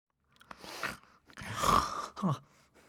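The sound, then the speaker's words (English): A voice imitates the loud snore of someone waking up: a couple of rough, breathy snorts rising into a groaning rasp, then a short grunt at the end, with no talking. “Ted wakes up with a snore.”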